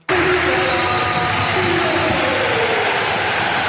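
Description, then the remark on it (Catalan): A big crowd at the Palau Blaugrana roars in a sustained standing ovation for Barça basketball player Nikola Mirotić around the start of the final game against Madrid. It is a dense wall of cheering and applause that holds loud and steady throughout, with a few shrill tones rising through the noise. “amb ovació important a Nikola Mirotić al Palau Blaugrana”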